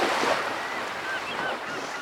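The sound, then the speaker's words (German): A steady roar of sea waves and wind fills the whole stretch without pause, with a few faint, high bird-like calls drifting over the rushing noise. “Sie hören die Wellen. Sie hören den Wind.”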